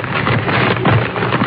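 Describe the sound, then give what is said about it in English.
Paper rustles and crackles in a steady, dense stream as a sound effect, fairly loud, with no gaps and no voices. “Then, a rustling of paper”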